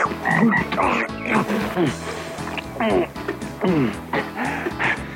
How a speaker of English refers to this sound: Ooh, look at that frog!